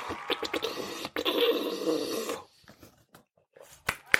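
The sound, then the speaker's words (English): A noisy, gurgling slurp of apple juice drawn straight out of the carton, a rough sucking sound lasting a couple of seconds, followed by softer sniffs and small mouth noises, with no talking. “I'm going to take a little sip of my apple juice.”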